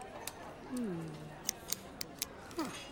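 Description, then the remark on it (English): Several small, crisp plastic clicks and snaps from a four-color pen being taken apart, irregularly spaced, with a brief voiced murmur early on. “What are you doing to it? I'm taking it apart.”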